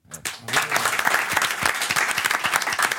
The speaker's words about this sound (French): Je m'auto-applaudis. Mais vous pouvez, c'est très joli.